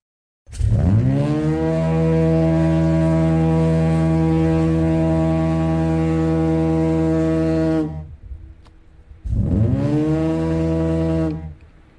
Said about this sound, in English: So when Marconi was here, that is the foghorn he would have heard? Oh, yes. Oh, yeah, in Marconi's time, oh, yes. Mm. That's a compressed air. Not like the new things today.